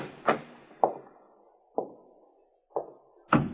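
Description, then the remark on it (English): A library door is tried and opened with a series of five sharp wooden thunks and rattles at uneven intervals, each fading quickly, with no voices. “This must be the library. Try the door, Muggan.”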